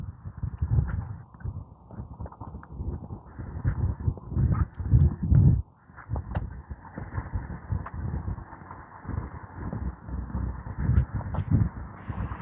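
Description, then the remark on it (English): A crow caws in harsh, repeated calls over a steady outdoor rumble of wind or movement, and no one speaks. “Sounds like a goose, but I think it's a crow.”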